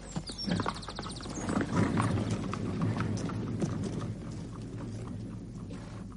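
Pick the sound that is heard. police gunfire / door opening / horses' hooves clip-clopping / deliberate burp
horses' hooves clip-clopping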